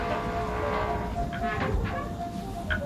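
A submarine hull groans under water pressure: a steady, heavy metallic rumble with drawn-out low moans and a few brief higher creaks and squeals, with no voices.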